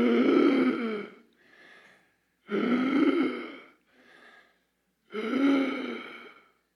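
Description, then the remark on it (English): Three loud, strained gasping inhalations in a steady rhythm, each followed by a quieter breathy exhale, with brief pauses between, as a speaker leads a group in imitating the gasping breaths of a person being crucified. “And so every breath is gasping for life. Everyone do that with me three times.”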